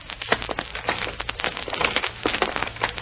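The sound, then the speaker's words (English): A very large, heavy wooden packing case on a portable platform rumbles and rolls through an office door into a hall, moved by two men, with a steady low rumble under crackling, creaking wood and irregular sharp clicks and knocks throughout. “On the platform is a large packing case, a very large packing case. And as it rolls into the hall...”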